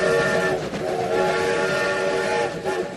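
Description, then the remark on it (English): The TJA Express, a steam-powered monorail on the Orange Track, rumbles along steadily while a sustained, harmonic whistle blows loudly over it, with no voices present. “The world's only steam-powered monorail.”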